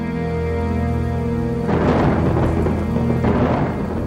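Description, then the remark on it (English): A sustained, droning musical tone gives way to a loud crash of thunder and a steady wash of heavy rain, followed by a second rumbling burst near the end. “The night was dark, and storm clouds marched along the sky. Rain beat against the grey castle walls.”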